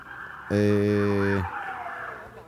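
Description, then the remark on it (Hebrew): Ambulance sirens wail in the background behind a radio call-in listener in Jerusalem, their pitch sweeping up and down steadily, while a loud, low, buzzing horn blares for about a second partway through. “יש ברקע מלא אמבולנס.”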